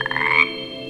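A rapid burst of frog croaking rattles for about half a second, then gives way to a steadier, quieter background chorus of frogs with no voices.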